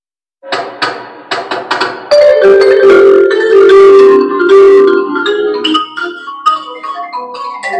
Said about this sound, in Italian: Questo è di legno, lo xilofono e il vibrafono. Spesso suonano con due bacchette alla volta. Questo è un pezzo virtuosistico, eh?